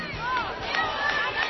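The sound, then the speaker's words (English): A large crowd at a political rally in Charleston, West Virginia, waiting for Hillary Clinton to arrive and celebrate her primary win, fills the air with a steady, loud din of overlapping voices, scattered shouts and whoops rising above the murmur throughout. “A crowd waits in Charleston, West Virginia, where Hillary Clinton is expected within minutes to celebrate her big win in today's primary.”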